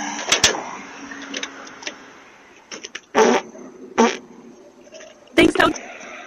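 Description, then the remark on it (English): A run of loud, sputtering fart noises from a man standing over a pot of homemade soup on a front porch: a short one near the start, then three bigger, rumbling blasts spaced a second or so apart, with a quieter hissy background between them. “farts on their soup.”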